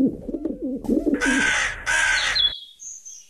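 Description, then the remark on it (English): Soft, low cooing from a dove gives way to two loud, harsh crow caws in quick succession, followed by a thin, high whistled bird note. There is no talking. “So have a listen to this and see if you can work out number one, number two, number three, which one of these is the crow?”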